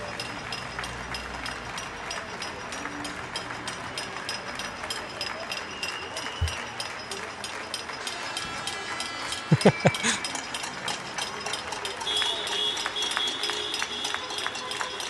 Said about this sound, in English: This is not chaos. This is people being thankful. And you can see this, and they're all like just applauding from their balconies or applauding from their homes.